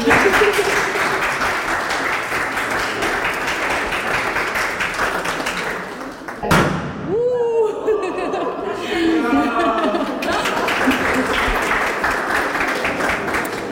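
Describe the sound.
A crowd applauds in a steady, dense wash of clapping at the official ribbon-cutting opening of the Centrum Aktywnych Rodzin (Active Families Centre), which drops away briefly while voices, chatter and laughter come through, then the loud applause swells up again.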